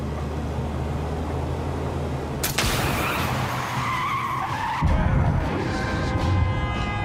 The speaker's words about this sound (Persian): لعنتی چه خبره؟ چی شده؟ یکی از چرخمون ترکید.